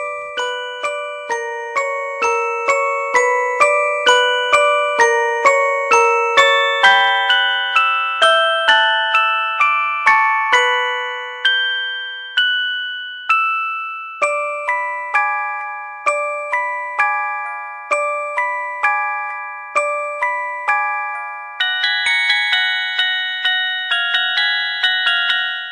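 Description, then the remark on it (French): The eerie mobile phone ringtone from the film One Missed Call plays a slow, chiming electronic melody of bell-like notes that ring out and fade, repeating its haunting tune several times with no voices. “Mais pour nous mettre dans le bain, une petite sonnerie de téléphone qui résonne sûrement encore aux oreilles de ceux qui aiment la J-Aurore.”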